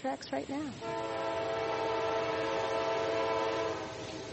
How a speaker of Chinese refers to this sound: 我们甚至能听到一辆火车沿着铁轨正在驶来。